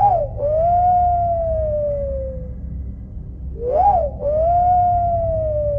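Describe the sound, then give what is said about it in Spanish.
Two long, eerie whistles heard from far off, each opening with a quick wavering rise and then holding a steady tone that slowly sags in pitch, over a low rumbling background. “A lo lejos retumba ese maldito sonido. Ese silbido al cual tanto le tengo miedo.”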